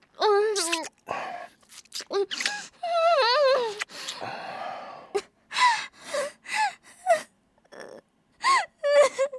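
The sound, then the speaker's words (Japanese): A person cries and whimpers, with shaky, wavering sobs and sharp gasping breaths coming in uneven bursts separated by brief pauses. “ほら、泣いてないでさっさと加えろよ。”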